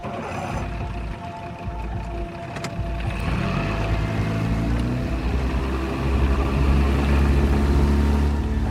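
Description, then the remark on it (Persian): A motorboat engine drones steadily on the water, its low rumble swelling and rising in pitch partway through as the throttle opens, loud over a wash of splashing water. “قایق رو براست؟ تا اون سر دوری هم میره.”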